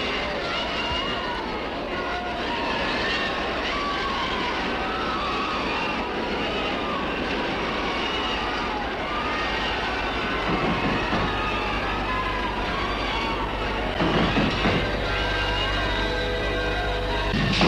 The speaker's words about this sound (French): Très vite, une bagarre se fait entre les CRS et les émeutiers. Des coups de feu, des explosions. Des bombes lacrymogènes, des corps qui tombent, des voitures qui explosent,